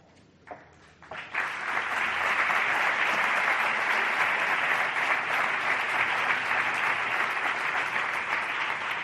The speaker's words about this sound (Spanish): Recoge Cristina Parra, consejera, entrega Ana Muñoz, primera teniente alcalde del Ayuntamiento de Granada. Más os vale aplaudirle a Cristina, y hasta ahí puedo contar, porque luego puede haber sorpresas.